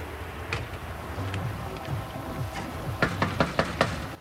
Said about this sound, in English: Sylvia walks up to a front door and knocks.